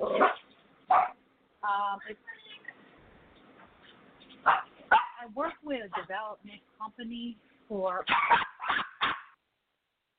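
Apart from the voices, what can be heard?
dog barking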